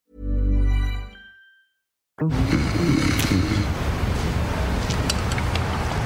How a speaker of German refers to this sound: Ist das nicht ein Schnarchen am Anfang? Ganz am Anfang, ja, das stimmt. Wer schnarcht denn da nochmal wo? Das klingt aber auch irgendwo, als wäre das noch draußen unterwegs.